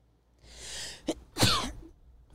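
sneeze

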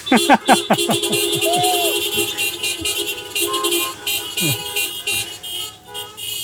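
car horns honking

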